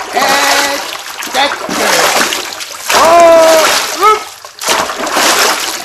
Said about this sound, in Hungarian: Nagyon erősen hullámzik a folyó! Én azt mondom, húztassuk inkább partra a tutajt, és várjuk meg, amíg a vihar elvonul.